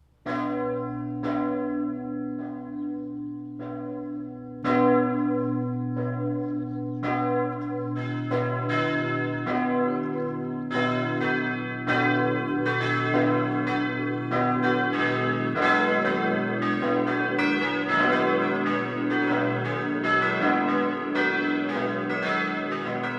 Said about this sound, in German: Das Mittagsläuten kommt heute von der Pfarrkirche St. Peter und Paul im schwäbischen Zimetshausen.